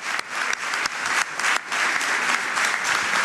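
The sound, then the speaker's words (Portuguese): Sustained audience applause for Jorge Nuno Pinto da Costa of Futebol Clube do Porto, a dense crackling wash of many hands clapping steadily and loudly throughout, with no voices standing out above it. “O aplauso continua para Jorge Nuno Pinto da Costa.”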